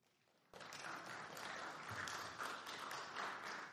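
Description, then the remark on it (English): At the close of a church sermon series on Galatians, after a brief hush, the audience bursts into steady applause, a dense, crackling wash of many hands clapping at once that holds at full strength to the end. “As we close out our study of Galatians this morning, clap now.”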